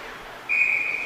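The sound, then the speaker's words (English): A referee's whistle cuts in sharply halfway through and holds as one loud, steady, high-pitched blast over a low hum of crowd noise at an ice hockey game between the Hawks and Sabres, stopping play after goaltender Robbins covers the puck, with the Hawks leading 3-0. “Hawks Sabres battling along the right post, and Robbins able to seal that up and get another whistle.”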